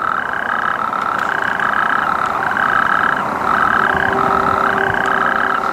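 A loud, continuous rattling trill of natterjack toads calling, a dense churring chorus that never pauses, with several overlapping callers and no voices.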